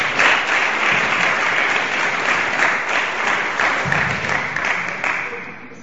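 An audience breaks into sustained applause, a dense, steady wash of clapping that holds at a strong level for several seconds before easing off slightly at the end.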